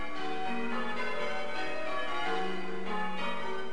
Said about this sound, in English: Bells ring out from All Saints Church at Tarling in North Essex. It's the culmination of a three-day course for ringers.